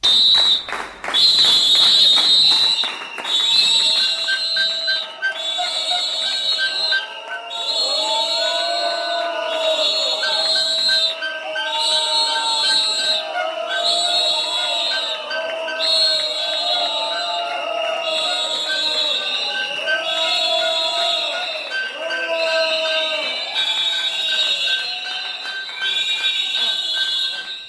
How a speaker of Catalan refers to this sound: l'aplaudiment des de l'exterior d'aquest grup de treballadors, que va aplaudir, i de manera molt, molt forta i amb xiulets, sentiran també ara, la baixada dels regidors del govern per les escales quan ja passaven ben bé 5 minuts de les 12 de la nit.